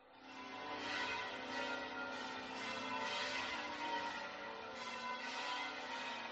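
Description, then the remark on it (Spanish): The bells of the Giralda in Seville peal continuously, a dense wash of overlapping metallic tones ringing out steadily for several seconds, reverberant, with no voices, rung as the new archbishop of Seville was announced. “Así han repicado las campanas de la Giralda cuando don Juan José Asenjo daba a conocer el nombre de Monseñor José Ángel Sáenz Meneses como su sucesor al frente de la archidiócesis hispalense.”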